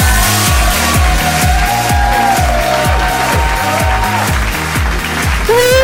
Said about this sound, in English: Oh, clapping as well. Clap. Oh, it keeps going. It's a big hand. It's a standing ovation.